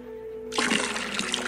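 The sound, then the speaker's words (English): Water is suddenly poured out of a container in a steady, splashing rush after a brief quiet moment with a faint hum, continuing fairly loud until the end. “And in this case, a container for the water, which you can think of as being my life force. Now, try to lose that.”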